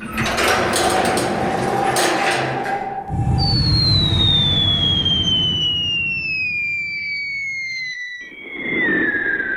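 door opening sound effect

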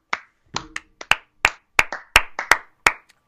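round of applause

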